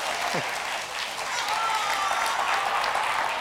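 A crowd applauds steadily, a dense wash of clapping that holds at a constant level for the full few seconds, sounding close and full rather than distant.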